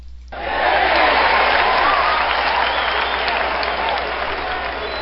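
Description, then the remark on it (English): Studio audience applause bursts in after a brief silence and holds steady as a dense wash of clapping for about five seconds, loud throughout and easing slightly toward the end. “All right, let's hear it for GW.”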